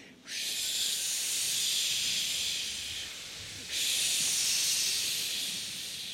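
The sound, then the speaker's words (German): Several voices imitate blowing wind with a steady, breathy hiss, holding two long whooshing gusts that fade slightly before surging again. No words are spoken. “Könnt ihr mir alle mit dem Wind helfen?”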